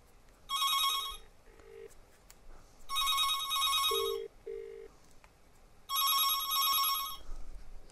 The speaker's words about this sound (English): It does ring like an ordinary phone, but it makes the cordless phone ring a bit differently. I thought it was the same.